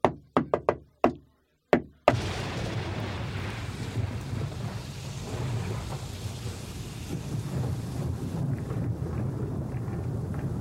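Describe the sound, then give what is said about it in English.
A quick series of sharp knocks on a hotel room door late at night, then two more spaced knocks, after which a steady rushing, rumbling noise like rain and wind takes over. No one speaks. “There was a knock on my door and it was like...”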